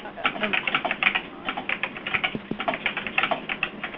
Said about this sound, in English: You know what, can people online mute their phones? We're hearing a lot of typing.